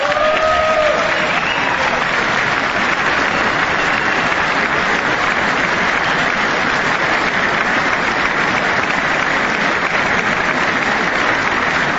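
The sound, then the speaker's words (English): Sustained, loud applause from a large audience after a call to pass the Stop Insider Trading Act, a dense wash of clapping that holds steady for about twelve seconds, with a brief voice audible at the very start. “I wasn't sure if anybody even on this side was going to applaud for that.”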